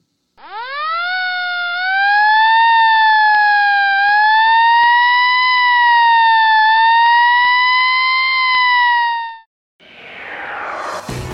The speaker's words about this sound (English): When you hear those sirens, do you say to yourself, Wish I could do that.